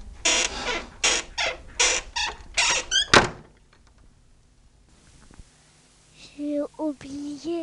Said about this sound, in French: La porte se referme, grinçant.